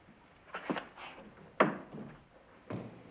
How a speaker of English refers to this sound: close that door.